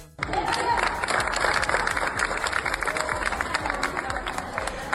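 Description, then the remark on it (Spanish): Steady applause from a crowd, a dense rattle of many hands clapping at once, sustained at an even loudness for several seconds with faint cheering mixed in. “Superat aquest primer escull, amb aquest aplaudiment de fons, ara espera el Sant Joan d'Espí als quarts de final.”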